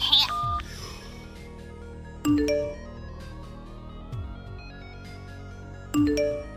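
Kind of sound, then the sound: signal or alarm, phone ringing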